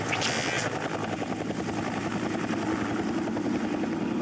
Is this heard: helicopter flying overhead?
yes